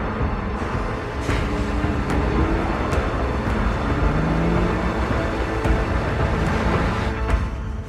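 A car and a pickup pass a transport truck on a road: a steady, loud roar of engine and road noise fills the whole stretch, with low rumble and a few brief sharp ticks, and no voices.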